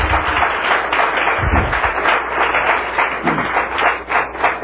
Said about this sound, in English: Well, I'd like us all to, before we get to the questions, give both of these gentlemen a round of applause for their hard work.